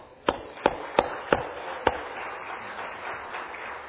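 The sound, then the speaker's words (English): A few loud, sharp hand claps land in an uneven rhythm, then give way to a softer, steady wash of scattered clapping from an audience in a church, giving a hand to a retired police officer from Baltimore as he stands up. No voices are heard. “would you stand up and let us give you a hand if you are.”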